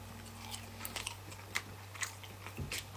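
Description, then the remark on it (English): Someone bites into and chews a fry, making a handful of soft, crisp crunches spaced irregularly over a steady low electrical hum, with no talking. “I don't think you could eat a fry like that, dude.”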